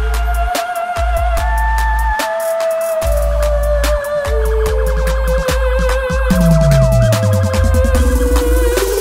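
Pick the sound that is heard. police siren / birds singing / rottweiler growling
police siren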